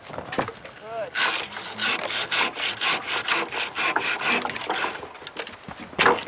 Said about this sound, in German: sägt von den Baumstämmen, die quer über den Weg liegen und nicht umgangen werden können, die abstehenden Äste ab. Dann können die Pferde die Hindernisse überspringen, ohne irgendwo hängen zu bleiben.